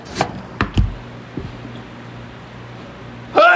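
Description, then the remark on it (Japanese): A sudden, sharp sneeze bursts out, preceded by a few short breathy clicks, followed by a quiet pause and a brief voiced noise at the end. “大丈夫か、 風邪か、くしゃみが。”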